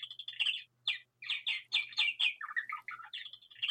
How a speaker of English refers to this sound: We have a wonderful voice in the background there. It's a little bird saying it's, the clock is running fast.